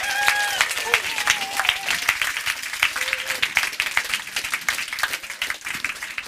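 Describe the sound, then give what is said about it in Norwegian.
An audience welcoming a guest bursts into sustained applause, many hands clapping densely and steadily, with a few brief whoops and cheers rising above the crowd. “Jeg pleier å si det når applausen dør ut uansett, så skynder jeg meg å si det, ja.”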